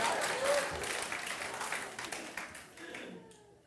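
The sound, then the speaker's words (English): A burst of audience applause, dense rapid clapping from many hands, steady for about three seconds before thinning and fading out at the end. “Give one hand.”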